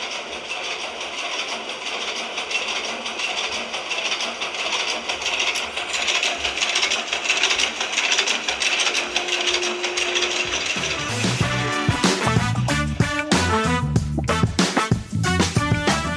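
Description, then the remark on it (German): Machinery noise from the engine room of the steam icebreaker Stettin: a dense mechanical clatter and hiss, with rapid rhythmic clanking and ticking growing louder and more pronounced after the first ten seconds. No one speaks. “Und weil er so viel über den Maschinenraum gesprochen hat, habe ich hier auch ein bisschen Maschinenraum-Sound der Stettin für dich.”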